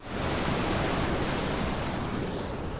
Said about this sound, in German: Ja, hier hört man sehr gut das Wasser rauschen